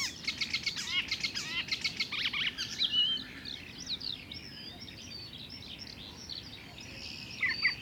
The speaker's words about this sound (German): Ein Gelbspötter ahmt heimische Vögel nach.